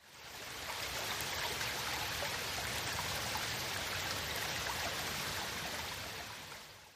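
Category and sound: nature, flowing brook water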